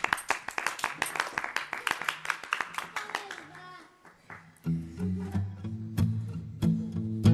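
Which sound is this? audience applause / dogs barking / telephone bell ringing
audience applause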